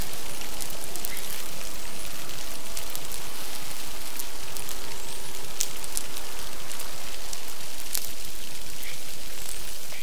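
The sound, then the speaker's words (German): Dolphins communicating undisturbed with one another underwater: a dense, steady crackling hiss with scattered sharp, bright clicks popping through at an even loudness for the whole stretch, with no voices. “So klingt es, wenn die Delfine ungestört miteinander kommunizieren können.”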